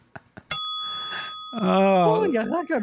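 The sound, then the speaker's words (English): A single bright bell strikes loudly after a couple of soft taps, its clear ringing tone lingering for about a second before a voice comes in over the fading ring. “So ring that bell in Irish.”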